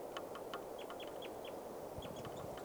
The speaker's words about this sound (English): Bird calling right here.